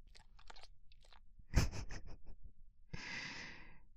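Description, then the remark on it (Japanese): Breathy, heavy exhaling mixed with wet, crackly mouth sounds, ending in a long, hissing breath out. It is moderately loud, with no talking. “お主の息遣いまで感じられるぞい。”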